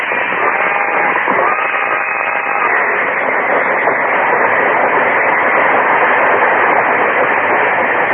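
A speeding train roars along the tracks, a loud, continuous rushing rumble and rattle that stays steady and close for the whole stretch.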